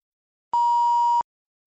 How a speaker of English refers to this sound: You will hear a beep each time to tell you that the recording is about to start.